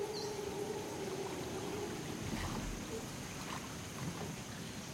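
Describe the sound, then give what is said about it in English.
Water swishes and laps steadily against the sides of a mokoro, a shallow-bottomed dugout canoe, as a man poles it through shallow swamp water in the swamplands of Botswana, a continuous sloshing with a faint tonal hum in the background. “The physical landscape that I find unforgettable, I'm in a Mokoro, that's a very shallow bottom boat, and it's being plied through the swamplands by an African man from Botswana.”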